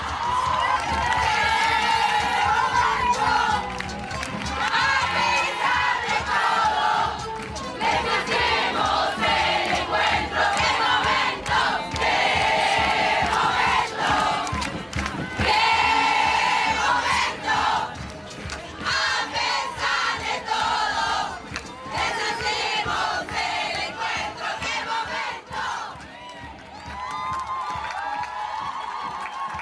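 A large crowd of women at the National Women's Meeting in Trelew shouts a chant together, voices loud and massed in steady rhythmic bursts that swell and dip throughout, with cheering mixed in.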